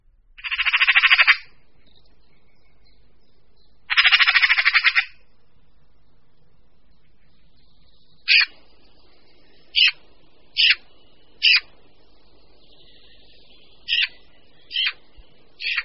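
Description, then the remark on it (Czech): A Eurasian magpie gives two long, harsh rasping chatters, then a string of short, clipped rattling calls at uneven intervals, loud against a quiet background. “Křehotavý hlas straky nás svádí až k pochybnostem, zda tento pták skutečně patří mezi pěvce, a tedy do společnosti takových mistrů, jako je třeba kos, drost nebo slavík.”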